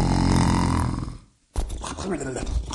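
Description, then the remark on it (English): A voice mimics the mayor, Duff, snickering and snoring as he naps sitting in a warm shaft of sunlight: a long, rumbling exhale that fades to a brief silence, then a second gruff, sputtering snore bursts in loud. “Snively stood there, listening to him snicker and snore, waiting patiently for him to wake up, when Kitty Kitty jumped up on his ample lap.”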